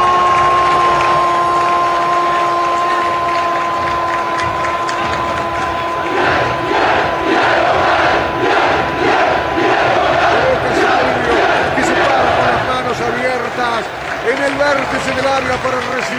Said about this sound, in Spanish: Este baño de gritos de la hinchada de Boca aquí en la Bombonera, como rogando que no sea el último.